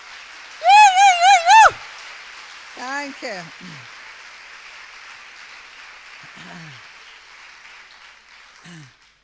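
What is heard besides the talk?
audience clapping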